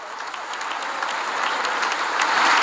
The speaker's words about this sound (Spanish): En tanto, a última hora de la tarde del miércoles, hora local en Washington, D.C., el dignatario ucraniano intervino ante un congreso expectante que le recibió con una larga ovación.